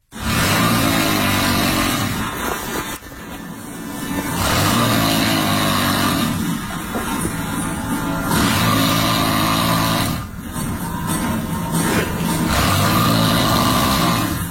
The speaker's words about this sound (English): So here's snore number one, or we'll call it A.